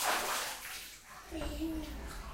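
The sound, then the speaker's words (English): Water splashes and sloshes in a bathtub as children play and laugh, a steady watery wash with brief surges, while a young child's voice calls out briefly over the splashing. “You're recording the sound of y'all's laughing and splashes.”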